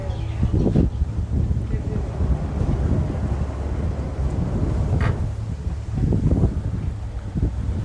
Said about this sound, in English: Okay, and that's how you get a 116-foot boat off the dock.